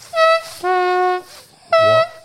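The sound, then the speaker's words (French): A guest on Dynamique Radio imitates a train horn with his voice, loud steady tooting blasts: a short high one, a longer lower one, then another high toot, with a fourth starting as it ends. “Pour le bruit du train et le bruit du bateau.”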